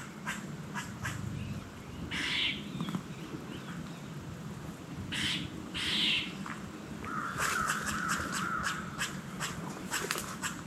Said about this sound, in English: I don't know if you can hear that or not, but let's slip up here. Hear those deer blowing?